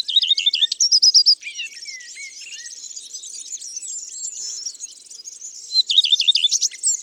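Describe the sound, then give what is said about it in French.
A common redstart sings in a poplar tree, each phrase opening with a quick repeated rolling trill before a scratchy, varied twittering warble; the pattern returns near the end. No voices. “Le truc pour le reconnaître, c'est que toutes ces phrases commencent plus ou moins par « i tru tru tru ».”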